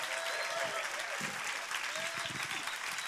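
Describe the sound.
Steady applause from a crowd, a dense wash of many hands clapping at an even level throughout, with faint voices and a few whistles mixed into the noise.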